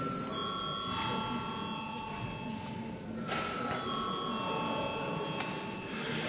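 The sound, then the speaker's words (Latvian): A parliament chamber bell, rung at the chair's request before a vote, rings steadily for the whole six seconds, a sustained, bright electric tone over a low rumble of background murmur and shuffling. “Komisijai neviens nav pieteicies runāt, lūdzu zvanu.”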